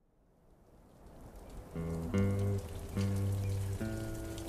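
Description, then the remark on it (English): Light, warm desert rain patters against the windows of a saloon, growing slightly louder, while low sustained musical tones swell in after a moment and continue beneath the rainfall. No one speaks. “Rain danced against the windows of Billy Bob's saloon.”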